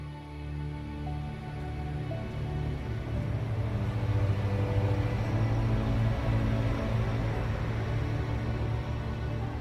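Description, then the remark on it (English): A bus's deep engine rumbles, growing a little louder over the first few seconds and then holding a steady, droning idle with no voices. “The bus came by right on time.”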